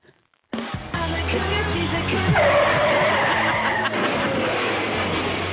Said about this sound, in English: I say Cougar Life, police, and car crash all at the same time.